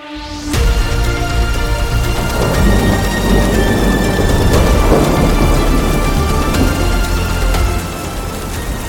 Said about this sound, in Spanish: Una violenta tormenta que arrasa con todo.